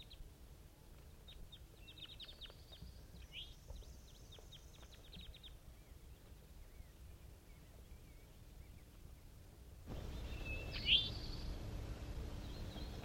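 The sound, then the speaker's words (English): Captive birds calling in response to five wild birds flying over, at almost 10 a.m.: quick bursts of high, thin chirps over a steady low rumble, then fade; after a pause a louder burst of noise arrives with one sharp call. “and these are the calls of the captives in response to five wild birds that flew over.”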